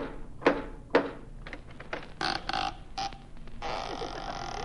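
Two sharp knocks on a door, about half a second apart, as Costello knocks on Peter Lorre's door, followed by a series of softer thumps and scuffling bursts over a steady background hiss.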